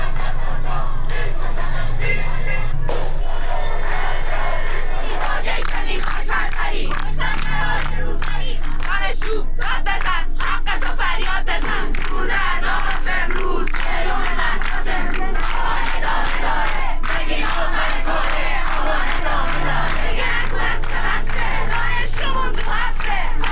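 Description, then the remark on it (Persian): A large crowd of protesters in Iran shouts slogans against the Islamic Republic and its leader in loud, rhythmic chanted bursts, voices rising and falling. Scattered cheers and some clapping break through the steady roar for the whole stretch. “سقز و ده‌ها شهر دیگر ایران روز چهارشنبه 4 آبان صحنه تظاهرات اعتراضی و شعارهای علیه جمهوری اسلامی و رهبر آن بود.”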